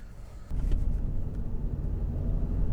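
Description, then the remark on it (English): A small car's engine kicks in after a brief pause and holds a loud, steady low rumble as the car accelerates in Vancouver, with no voices over it. “Okay, go car, go! Oh yeah, it's got all the power of a Singer sewing machine.”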